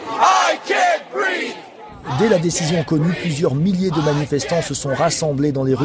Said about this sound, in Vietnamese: Sau phán quyết của tòa án, hàng ngàn người đã tập trung ở đường phố New York và hô to khẩu hiệu "Tôi bị nghẹt thở". Đó là những lời nói cuối cùng của Eric Garner.